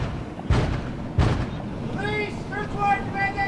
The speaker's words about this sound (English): On a bright morning in Fairfield, California, officers with the State Department of Cannabis Control bang on the door of what looks like all the other suburban houses on this street.